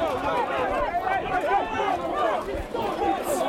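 A loud football crowd of Walton and Corinthian Casuals fans, side by side, chants during a penalty shootout, many voices blending into a dense, continuous roar with wavering sung tones, holding steady throughout with no single voice standing out.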